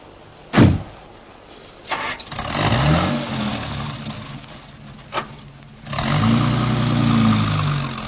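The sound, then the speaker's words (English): A car door thuds shut, then an engine cranks and starts, its low rumble rising as it revs. A second door slams before the engine settles into a steady running drone. “Tell you in the car.”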